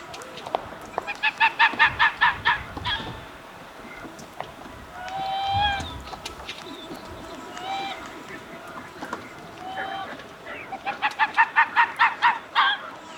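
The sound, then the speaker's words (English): Eider ducks in a nesting colony call in quick, rhythmic honking bursts, loud at the start and again at the end, with softer scattered calls and outdoor ambience between. “a colony of nesting eiders can mean the difference between a sacred shore and an average beach.”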